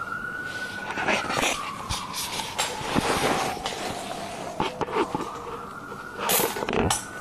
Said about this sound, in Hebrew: שומעת מנגינה? זה אמבולנס. כן. צעצוע.